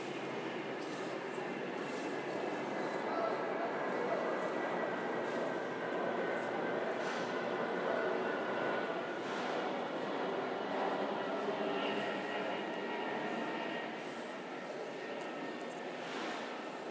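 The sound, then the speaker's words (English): A train rushes without stopping through a station where every train usually stops. It makes a loud, steady rumbling roar with humming tones and intermittent rail clatter that holds for the whole stretch before easing slightly at the end. “So it does suggest that something is amiss, that a train has gone through without stopping.”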